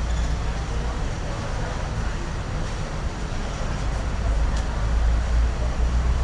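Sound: road traffic noise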